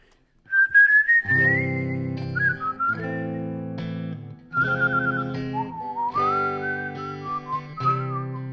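Bill Kirchen whistles a slow, sliding 1959 classic melody over strummed guitar chords he plays, which ring out in steady sustained blocks, the whistle wavering and gliding between notes, clear with no talking, in a studio in Washington, D.C.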